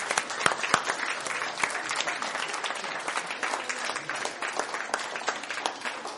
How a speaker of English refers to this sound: Let's give them a round of applause, by the way.